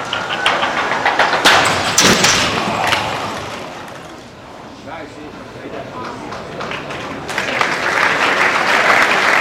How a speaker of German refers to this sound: Zuerst ein Schreck, dann Applaus vom Publikum für ein krasses Experiment mit einem drastischen Resultat.